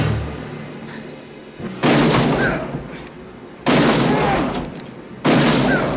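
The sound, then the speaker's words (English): Three loud gunshots from a film scene, a young gunman shooting a man three times, ring out about two seconds apart, each a sharp blast with a long, echoing tail, over a low rumbling background with no talking. “Mike is reaching for his gun, and the kid shoots him 3 times.”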